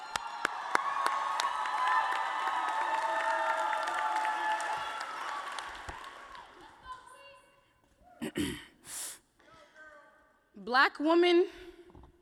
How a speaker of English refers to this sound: And keep that applaud going. Welcome up to the stage,